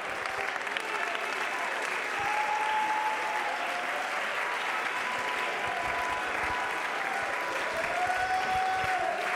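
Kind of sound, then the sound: crowd, audience hand clapping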